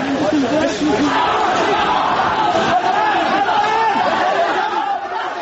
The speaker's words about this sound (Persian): صدای ناله‌های دانشجویانی که به صورت گروهی و روی هم بر زمین خوابانده شده بودند با صدای فریادهای نیروهای انتظامی و لباس شخصی ها در هم می پیچند.